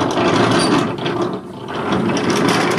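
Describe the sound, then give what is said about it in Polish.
A steady, dense mechanical rumble of a wind-driven Dutch-type windmill in strong wind. Two millstones grind grain into flour, one lying still while the other runs over it. Continuous low churning and a faint rattling, ratchet-like clatter run throughout, dipping briefly in the middle before resuming. “I słychać, jak pracuje kamień. Są dwa kamienie, jeden leży nieruchomo, drugi po nim biega.”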